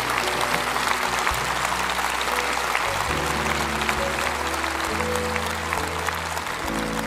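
audience applauding

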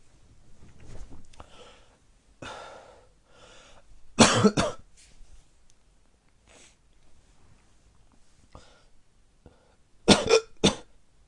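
coughing

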